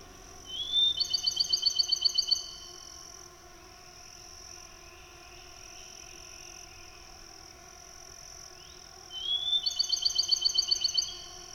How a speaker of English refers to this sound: Oh my, the musical songs of a Bachman sparrow. And there he is on a limb in a pine, silhouetted against the pale orange sky.